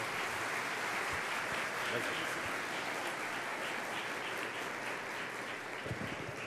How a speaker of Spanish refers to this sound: Recibámoslo con nuestras palmas.